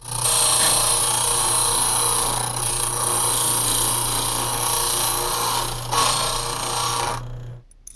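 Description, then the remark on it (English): A key cutting machine grinds a copy, a loud, steady whirring rasp with a low motor hum and a harsh, hissy edge, running about seven seconds before stopping abruptly. No voices. “Well, I can either take the lock off or make you a new key copy, but I don't have the equipment to make a new lock.”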